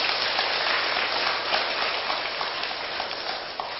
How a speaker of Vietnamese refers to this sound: Nếu tất cả quan hỷ với đề nghị quán niệm bốn điểm tựa nêu trên đó, thì hãy cho một tràng vỗ tay thật lớn nào.